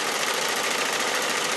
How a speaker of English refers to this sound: That's the IBM 1401, a mammoth beast of a computer, which we'll hear about in a moment.